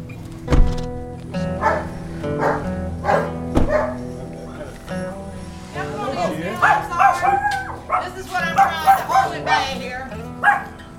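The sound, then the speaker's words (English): A dog, a rescue Pomeranian named Lily Pearl, barks repeatedly. Its deep woofs break into drawn-out, howling yowls toward the end, loud and insistent throughout. “How big's the dog?”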